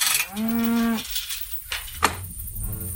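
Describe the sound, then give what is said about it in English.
A single cow lets out a long, steady moo lasting about a second, followed by quieter outdoor ambience with a couple of brief knocks or thumps. The cow is one of 100 head of beef cattle on a ranch near Ada, in south central Oklahoma. “She has 100 head of beef cattle. And that's what you're hearing now.”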